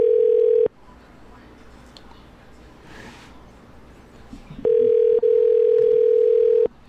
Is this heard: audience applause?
no